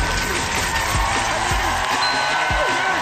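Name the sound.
hand clapping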